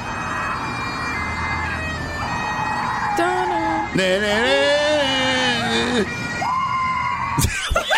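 A loud bagpipe plays a slow, stately rendition of a film theme over a steady droning hum, its notes held long and sliding between pitches, ending with a brief burst of noise.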